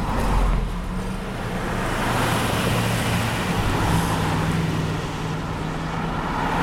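Steady roadway noise of commuters' cars rushing to and from work on Upper Noons Creek Drive in front of Mountain Meadows Elementary School, a continuous engine and tire rumble with passing vehicles swelling and fading, moderately loud, with no talking.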